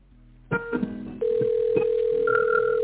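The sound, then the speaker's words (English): A phone receiver clatters and clicks, then a steady, unbroken dial tone hums loudly, with a brief higher-pitched beep layered over it near the end. No voices. “I'm supposed to be over here, not dialing people.”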